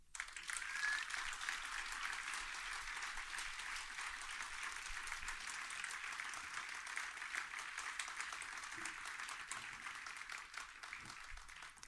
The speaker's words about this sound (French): Est-ce que pendant qu'on y est, vous pouvez faire un tonnerre d'applaudissements